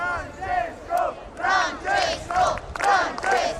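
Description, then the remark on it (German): A crowd of several hundred people waiting outside the Gemelli hospital in Rome for Pope Francis chants in steady, rhythmic bursts, many voices rising together roughly twice a second, loud and sustained with a murmur of the throng between shouts. “Es sind mehrere hundert Menschen, die vor dem Gemelli-Krankenhaus in Rom gespannt auf Papst Franziskus warten.”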